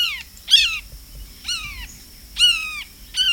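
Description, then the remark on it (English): A bird imitates a red-shouldered hawk, giving four loud, harsh, downslurred screams at roughly even intervals over a faint low rumble, with no voices present. “And astute mimicry of birds of prey, such as the red-shouldered hawk.”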